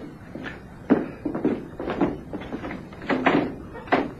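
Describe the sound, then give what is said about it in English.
The door of a furniture shop's back office is opened, with a sharp click followed by a few soft knocks and shuffles, while muffled voices murmur quietly in the background. “Please, Mayor, leave the door open so we can see into your shop.”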